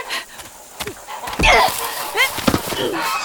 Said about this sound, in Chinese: 坏大鹅，你叫，叫你叫，就不撒手，叫一些小鹅仔住嘴！